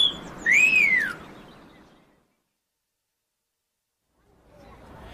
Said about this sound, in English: Oh, a whistling gnome.